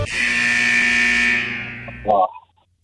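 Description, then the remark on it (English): A loud, harsh game show buzzer blares for about two seconds as one continuous raspy tone, then cuts out with a brief rough blip and a quick fade to silence. “buzzer went off.”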